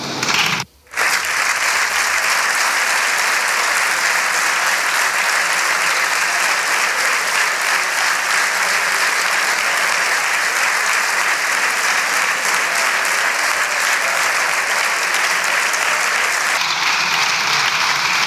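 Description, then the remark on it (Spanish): A standing ovation in parliament from the Socialist Group, all deputies on their feet, for Pedro Sánchez: dense, loud, continuous applause, holding steady for about eighteen seconds after a brief cut near the start, with no clear speech. “Ovación cerrada del Grupo Socialista, todos los diputados de pie, Pedro Sánchez dándole las gracias, haciendo así con la mano como diciendo, bueno, tampoco hace falta que me queráis tanto, pero en el fondo...”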